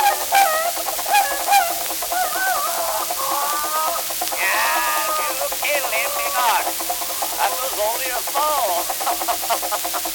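A chicken squawks and clucks repeatedly and loudly in a frantic, uneven string of harsh cries that fills the whole stretch with barely a pause.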